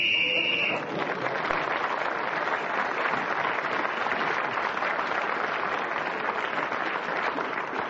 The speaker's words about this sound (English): Peter Jones kept going till the whistle went, gained that extra point, as well as others in the round, and he is creeping up on our leader.